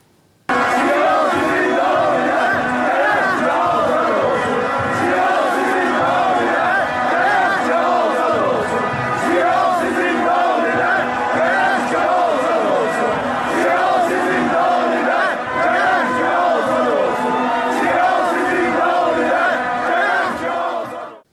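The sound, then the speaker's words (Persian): A large crowd of Tractor Sazi Tabriz football fans in a stadium chants slogans in support of political prisoners in unison during and after a match, a loud, continuous roar of many voices with rhythmic rises and falls, sustained throughout with no pauses. “جمعه که گذشت گروهی از تماشاگران تیم فوتبال تراکتورسازی تبریز در طول مسابقه و بعد از اون شعارهایی رو در حمایت از زندانیان سیاسی سر دادن.”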